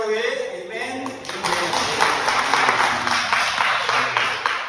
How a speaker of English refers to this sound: Are we quiet this morning? Can I get a clap? Amen.